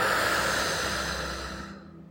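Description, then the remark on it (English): A long, deep breath is drawn in through the nose from the bottom of the belly and let out through the mouth, a soft airy rush that starts strong and gradually fades away, alone with no talking. “Last time, deep breath from the bottom of your belly and just let everything go.”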